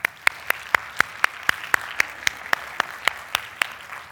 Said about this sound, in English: Okay. Now, great. Now, I want you to clap.